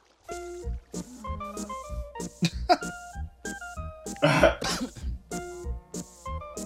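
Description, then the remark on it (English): A harsh, noisy, non-electronic cough bursts out loudly partway through a semi-electronic advertising spot for Vicks medicated cough drops, surrounded by short tonal, musical-sounding notes that come and go in choppy fragments. “I'd better add the cough is not electronic either.”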